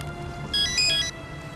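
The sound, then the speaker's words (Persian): A telephone rings once with a bright, high electronic trill lasting about half a second, set against a steady background hiss like soft rain, with no voices. “مادر تلفن جواب میدین؟”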